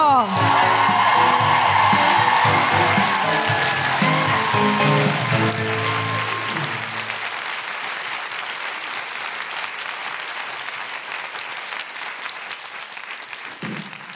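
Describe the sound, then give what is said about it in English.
A crowd bursts into loud, sustained applause with some cheering, welcoming Tusiata Avia to the stage; the clapping is dense and steady before gradually thinning out and fading toward the end. “Please welcome to the stage, with your revolutionary, orgiastic, best applause, the incredible Tusiata Avia!”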